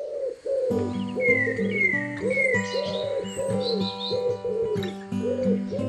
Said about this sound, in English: As dawn breaks and morning light spreads from east to west, we'll be bringing you the breathtaking beauty of birdsong as it moves like a spectacular wave of sound across the face of the earth.